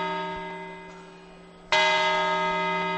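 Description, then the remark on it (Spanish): The large bell of the Puerta del Sol clock strikes the New Year chimes as people take their grapes; a resonant, ringing tone fades slowly, then a fresh loud strike sounds and hums on with rich, sustained overtones. No one speaks. “Séptima campanada, la gente móviles en la mano, tomando las uvas, 7, 8.”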